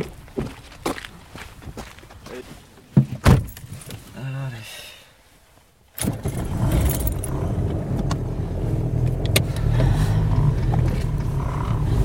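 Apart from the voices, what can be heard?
getting into a car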